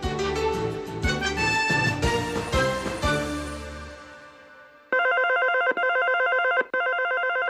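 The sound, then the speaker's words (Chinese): Several telephones ring at once in a loud, overlapping jumble of bells and chirps, then fade out before a single electronic phone ring sounds alone in steady repeated bursts. “此起彼落的电话声，永无止境的临时交办，身心感到疲惫。”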